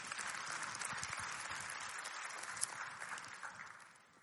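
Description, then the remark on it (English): A church audience claps steadily together, a dense wash of many hands at moderate loudness, then the applause tapers off toward the end. No one speaks over it. “Yeah, that's one you can't applaud.”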